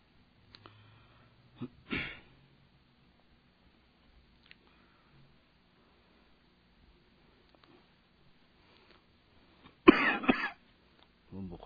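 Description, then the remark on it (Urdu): A person ill with fever and a cough coughs and clears their throat: a short harsh cough near the start, then a louder burst of coughing later, with quiet pauses in between and no talking. “بخار کھانسی اور ان سب چیزوں کا اتنا زیادہ اثر ہو گیا کہ بات ہو سکے گی یعنی اندازہ نہیں ہے.”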